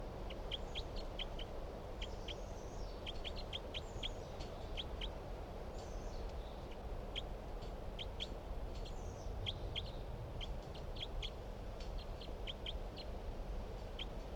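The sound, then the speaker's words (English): A forest bird, identified as bird 366 and recorded at 9:27 a.m., calls repeatedly in bursts of sharp, high-pitched notes, with a few softer whistled phrases mixed in, all over a steady low background hum. No one speaks. “9:27 a.m. and these are the calls of bird 366.”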